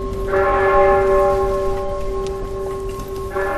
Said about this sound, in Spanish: Es el sonido de las campanas que ha precedido a las 12 del mediodía el respetuoso minuto de silencio que se ha guardado en la Plaza Mayor para honrar la memoria de los dos guardias civiles fallecidos este fin de semana en Barbate en acto de servicio